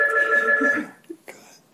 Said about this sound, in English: Is it going again? Uh-huh. Okay. Sorry, the phone rang.